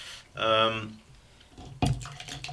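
Water is poured loudly into a glass, a brief ringing gurgle lasting about half a second, followed by a sharp knock like the glass being set down.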